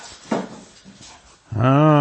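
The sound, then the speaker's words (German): In a kitchen, after a few soft, scattered bumps and rustles, a cat lets out one loud, drawn-out meow with a tonal, slightly rising pitch that carries to the end. “Falls ihr irgendwelche Störgeräusche gehört, das sind die Katzen.”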